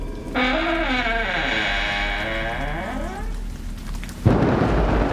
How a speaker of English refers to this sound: Quickly! The acid rain is at its heavy point. Acid rain? Very acidic. It tastes like toxic waste sweets.